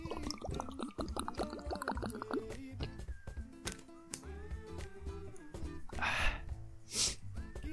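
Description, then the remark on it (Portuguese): Someone drinking water: quiet sipping and swallowing, then two short breathy bursts like gulps and an exhale near the end, over a steady tonal background. “Só vou tomar uma água aqui, porque tá osso.”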